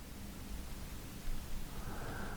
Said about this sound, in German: Das Rauschen des Meeres ist so angenehm beruhigend.